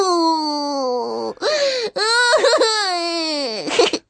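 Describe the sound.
A girl wails loudly, long drawn-out crying cries broken by a couple of short sobbing catches of breath, with no other sounds around it.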